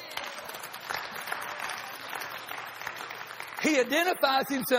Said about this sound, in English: Give Jesus a hand clap.